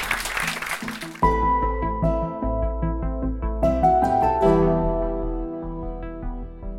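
A short burst of audience applause, a dense crackle of clapping lasting about a second, cuts off abruptly as melodic instrumental music begins and carries on to the end.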